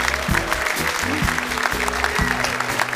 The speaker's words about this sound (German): Deshalb jetzt außerplanmäßig schon mal ein großer Applaus für meine Kollegin